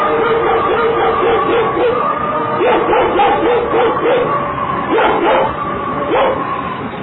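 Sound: dog barking and yipping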